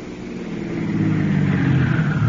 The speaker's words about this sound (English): Isn't that a car coming up the drive now?